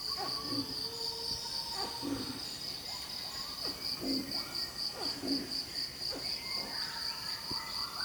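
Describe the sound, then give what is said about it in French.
An angry orangutan gives a series of low, agitated calls in repeated bursts, backed by a steady, shrill drone of insects and scattered bird calls in a jungle in the morning. “Ça, c'est le bruit qu'ils font quand ils sont en colère.”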